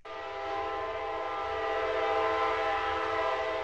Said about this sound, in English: When a train goes by this small wooden house, you almost expect it to run right through Sunny Taylor's studio.